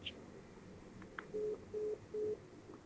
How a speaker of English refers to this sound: That's when I called Richard, and he hung up on me.